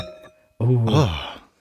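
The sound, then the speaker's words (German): Wine glasses clink once in a toast at a microphone, leaving a thin, high ring that fades out before a loud voice breaks in with an exclamation. “Deshalb sitzen wir jetzt hier und stoßen zusammen auf einen gemeinsamen Wein an.”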